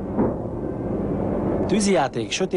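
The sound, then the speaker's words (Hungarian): Deep, continuous rumbling booms of a fireworks display on August 20, 1966, the first held after a 10-year break, roll on throughout, with a crowd's excited voices and cheers rising over them toward the end. “Így örültek az emberek 1966-ban, amikor 10 év szünet után újra tűzijátékot tartottak augusztus 20-án.”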